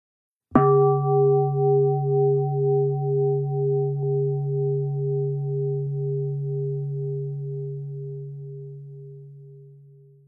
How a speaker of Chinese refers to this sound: 好的，接下来你会听到冥想结束的钟声，也可以放松地享受钟声。